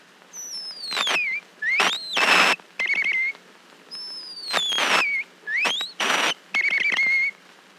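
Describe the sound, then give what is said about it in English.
A wild mockingbird sings a varied string of bright whistled phrases: sliding upward and downward notes mixed with quick trills and buzzy bursts, fairly loud, with brief pauses between phrases and no talking. “The wild mockingbird.”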